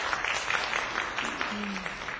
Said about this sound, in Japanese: 拍手を持って歓迎したいと思います。ちょっとありがとうございます。